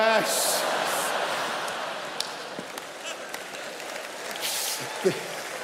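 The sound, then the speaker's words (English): An audience cheers and whoops for several seconds as someone returns, a dense, sustained wash of voices with brighter bursts near the start and end and a few sharp claps or shouts standing out. “But before this random cheer appeared of you returning, good to have you.”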